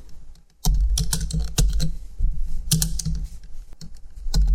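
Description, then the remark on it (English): Rapid, irregular keyboard typing as a tweet is written, with sharp clicking keystrokes in quick bursts, fairly loud over a low background rumble, with no talking. “Hold on. I'm tweeting this really quickly.”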